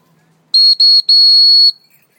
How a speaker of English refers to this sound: Whistle on.